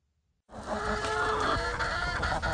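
A flock of chickens walking around a backyard clucks and murmurs in a dense, overlapping chorus that starts abruptly after a brief silence and stays loud and steady throughout.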